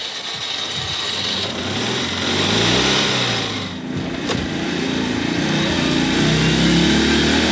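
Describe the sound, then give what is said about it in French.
A Citroën 2CV's small engine, recorded on board during a ride in 2018, drones throughout the drive, its buzzy pitch rising and falling as the revs change, over a steady rattling, whooshing wash of road noise. No one speaks. “Nous avons cherché à savoir ce que signifie posséder une Deux Chevaux en 2018. Reportage à bord lors d'une virée.”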